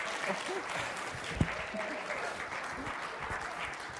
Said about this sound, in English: I'm assuming that applause is for me.